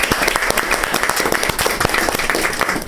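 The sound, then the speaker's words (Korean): A crowd breaks into steady applause to encourage the family of a person who has recovered, dense overlapping claps sustained at an even, fairly loud level for a few seconds with no talking. “여러분들도 해보셨지만 오만감이 그 이쪽 세계에서 이쪽 세상으로 오는 그 차이가 부인까지 합해서 우리 가족한테 박수로 우선 격려를 받아야 합니다.”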